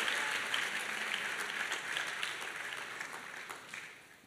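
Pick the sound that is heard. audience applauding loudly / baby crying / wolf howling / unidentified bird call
audience applauding loudly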